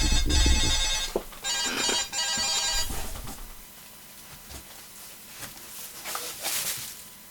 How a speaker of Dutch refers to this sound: Dan gaat mijn wekker.